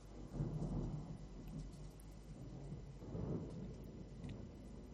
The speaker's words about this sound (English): What you're hearing there in the background is the thunder resonating over the reed valley of the Guadiaro River in the torrential rains of the morning of the 4th of April, 2013.